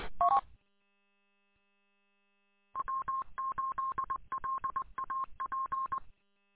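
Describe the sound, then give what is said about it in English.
A short touch-tone beep, a pause, then a rapid run of telephone dialing tones in uneven clusters as a radio operator places a phone call, steady mid-pitched beeps at moderate loudness with no voices. “I'm gonna give you a call on the phone,”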